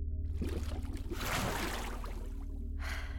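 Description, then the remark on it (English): Water being shaped and splashed sloshes in a swirling burst that swells to a peak midway and then fades, over a steady low hum, with no one speaking. “Making faces at me with the water is just ruining your control even more, you know.”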